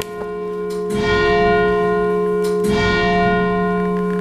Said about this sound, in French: La cloche, qui a un très joli son. Après avoir entendu donc, le son de ce clocher, nous sommes sous les cloches, c'est-à-dire dans le narthex, dans l'entrée de l'église de Saint-Cyr